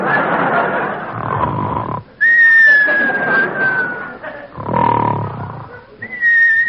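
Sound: whistles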